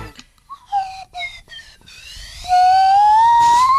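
A large Swanee whistle, bigger than a recorder, plays a few short, wavering toots, then a long, loud note that slides slowly upward in pitch. The tone is pure and breathy, with no voices.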